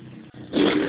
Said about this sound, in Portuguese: Podia repetir, passou uma moto aqui, eu não escutei.